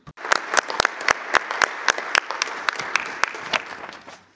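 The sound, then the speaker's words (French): A round of audience applause from delegates at a committee meeting on displaced populations, a steady patter of many hands with sharper individual claps standing out, sustained for several seconds before tapering off. “Je vous propose d'applaudir à nouveau Madame Faure.”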